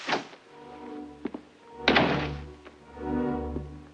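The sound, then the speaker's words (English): An outside door is pushed shut with a single solid thunk, preceded and followed by a few small clicks and taps, all over a steady low tonal hum. No one speaks. “With quick, shallow breaths, he walks across the room, shuts the outside door, and switches off the lights.”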